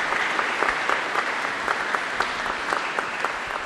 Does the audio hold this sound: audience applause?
yes